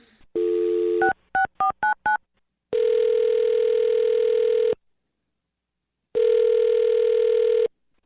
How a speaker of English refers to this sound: I'm going to dial her phone number right now, though. Okay, here we go.